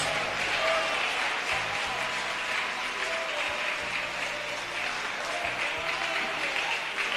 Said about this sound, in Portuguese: Eu quero ouvir palmas misturado com glória a Deus.